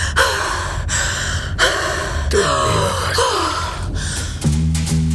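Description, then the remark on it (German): A woman gasps and pants heavily, a run of loud, ragged breaths, some with a strained voiced edge, following one another without pause and with no speech. “Sie keuchte mir den Namen ihres Freundes entgegen und stieß mich unsanft zur Tür und ins Treppenhaus.”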